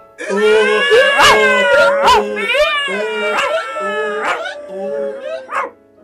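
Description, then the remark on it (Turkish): A loud, overlapping chorus of animal calls as the animals sing together, with a donkey braying, a dog barking and howling, a cat yowling and a rooster crowing all at once, continuous before breaking off. “Kedi köpeğin sırtına çıkmış. Horoz da kedinin üstüne tünemiş. Hep birlikte şarkı söylemeye başlamışlar.”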